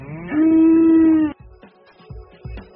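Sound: cows mooing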